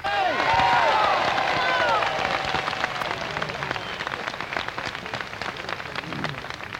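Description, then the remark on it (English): A voice at the edge of a crowd gathered at night in Lincoln Park, where people hold lit sparklers, lets out a high, whooping "yippee" over a steady wash of crowd noise, the cry rising and falling briefly before fading into the rustling din. “A yippee from the periphery of the crowd.”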